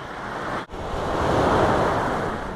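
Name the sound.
sea waves and surf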